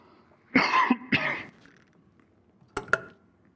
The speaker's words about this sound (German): Entschuldigung, ich muss mal husten.